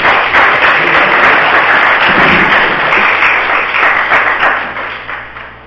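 A crowd applauds steadily, a dense wash of many hands clapping at once that holds strong for several seconds before gradually thinning and fading toward the end.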